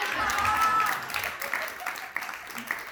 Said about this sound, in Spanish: De aquí es donde se aplauden ya para que me pinches calle.